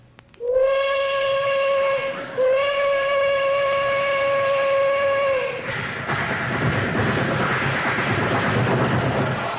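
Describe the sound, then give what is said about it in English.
A loud, steady train horn, played over a loudspeaker through a microphone while roaring through a small town at 3 a.m., blares with rich harmonic tones, briefly breaks and resumes, then cuts off into a broad rushing roar like a train passing through. “They didn't have any tracks in that town.”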